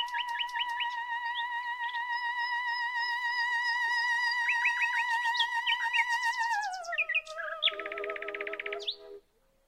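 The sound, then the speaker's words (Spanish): A nightingale sings alone: steady whistled tones laced with quick chirping flourishes, then the pitch slides downward into a burst of rapid, buzzy trills before it stops abruptly. “Al canto del ruiseñor lo podemos identificar en distintos paisajes de la naturaleza.”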